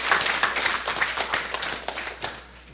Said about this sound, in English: Yeah, it's all right. We can give the Lord a hand clap.